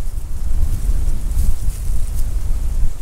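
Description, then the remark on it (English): Steady wind buffets the microphone outdoors on the Ordery River, a loud low rumble with gusty swells and a faint hiss above, continuous for the whole stretch with no voices. “It's a little bit windy out here on the Ordery River today.”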